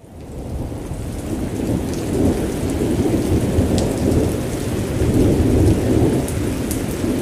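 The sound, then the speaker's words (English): A steady lightning storm, heard while hanging off good old Abe's hat: heavy rain hisses continuously while low thunder rumbles and rolls throughout, swelling at times, with scattered sharp drip or crackle sounds on top and no voices. “I'm hanging off good old Abe's hat during a lightning storm.”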